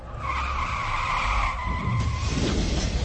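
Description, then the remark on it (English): A car roars at high speed as its tires let out a long, loud, sustained squeal, skidding steadily for a few seconds over a rumbling engine, with no one speaking. “Accelerating car to a high speed.”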